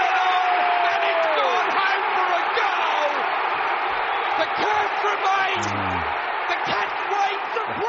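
A huge stadium crowd of 65,000 people at a football match roars in a dense, continuous wash of noise as Hawkins takes a 52-metre kick after the siren, with scattered shouts and whistles rising above the steady din throughout.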